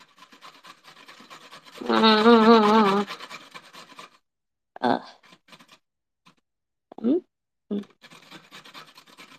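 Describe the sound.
Quiet, rapid rasping strokes of a carrot being grated into small pieces, a steady scratchy rhythm interrupted by a louder, wavering voice-like tone and a few short scraping bursts.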